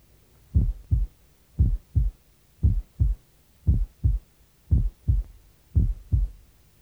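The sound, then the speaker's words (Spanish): Heartbeat heard through a stethoscope diaphragm at the left lateral sternal border: six steady lub-dub pairs of deep, muffled thumps about once per second, with a faint low hum between beats and no voices. “Está escuchando el corazón en el borde external lateral izquierdo.”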